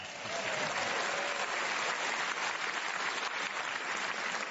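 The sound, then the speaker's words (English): A studio audience claps steadily throughout, a dense, sustained wash of applause with no pauses and no one speaking over it. “I don't know why you clap.”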